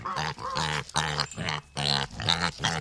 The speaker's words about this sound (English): Researchers say they have created a technology tool that uses pig sounds to interpret different emotions the animal is feeling. The tool is based on thousands of recordings collected from more than 400 pigs throughout their lives.